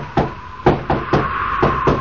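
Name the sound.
knocking on a door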